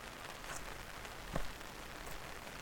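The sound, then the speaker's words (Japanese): Light rain falls steadily in a garden in a soft, continuous hiss, with a few faint drips and taps standing out now and then; no voices are heard. “この雨に感謝しないとね。それじゃあ本降りになる前に庭園を一周しちゃおっか。”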